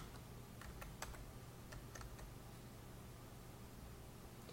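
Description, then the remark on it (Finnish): A short burst of computer keyboard typing, several quick, irregular key clicks, fairly quiet over a steady low electrical hum, as the name of a topic area is typed into an exam tool; no one talking. “Määritellään vielä toinen aihealue, eli klikataan lisää aihealuetenttiin painiketta ja kirjoitetaan aihealueen nimi.”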